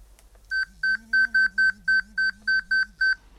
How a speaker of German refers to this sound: Das vibratorische und akustische Feedback verändert seine Intensität und sein Tempo, wenn man sich einem Hindernis nähert